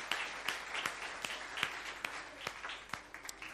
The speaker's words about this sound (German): Erstmal einen Applaus. Ja, es geht in die Schule. Stark.